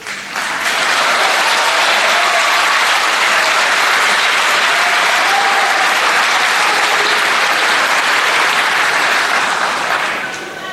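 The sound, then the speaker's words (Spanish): Loud, sustained applause from an audience interrupting a speech, a dense wash of clapping that swells in within the first second, holds steady for about ten seconds, then fades at the end. “Por si no se escuchó por los aplausos, ofende el silencio de aquellos que se dicen republicanos.”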